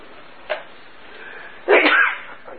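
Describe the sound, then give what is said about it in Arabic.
A single sharp sneeze bursts out, preceded by a brief faint intake or stifled puff, against a quiet background. “يرحمك الله.”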